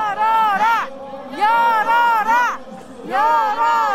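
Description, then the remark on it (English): A large protest crowd outside the National Assembly chants "open, open, open" in unison as police try to block them from occupying the street, a short repeated call rising and falling in three loud bursts with brief pauses between, voices blended into a rough, harmonic roar over steady background noise. “So now you can hear the chant from the crowd is open, open, open.”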